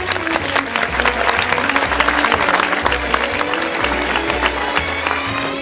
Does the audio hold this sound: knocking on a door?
no